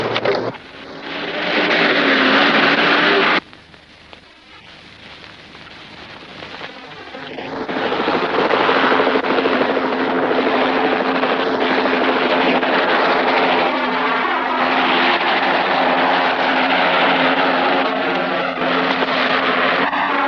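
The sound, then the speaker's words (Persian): A patrol helicopter roars with a loud, steady droning engine. The noise briefly drops away partway through, then swells back and holds constant until the end, with no voices. “خلبان هلیکوپتر گشتی ها هواپیماشون رو منفجر کرد.”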